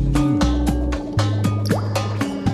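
Water drips steadily, about ten clear plinking drops in quick succession, each with a ringing, slightly rising tone over a low resonant hum. No voices.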